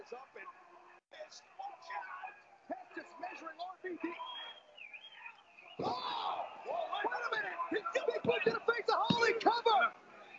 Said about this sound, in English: So CM Punk went from I want him to win to but first person eliminated. Listen to this crowd.